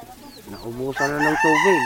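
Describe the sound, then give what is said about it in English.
A fighting cock in the Philippines, near the Taal volcano, crows once, loud: a short rising lead-in, then a long, strained, harmonic cock-a-doodle-doo. A few faint high bird chirps come just before it. “So Noel is showing me a fighting cock here.”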